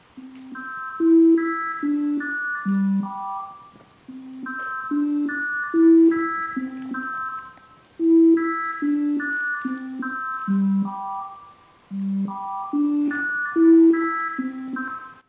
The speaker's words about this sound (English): And you'll hear a tune which is played alternately by a pure tone at the fundamental frequency and a group of high harmonics. But you should hear that the pure tones and the harmonics are giving the same melody.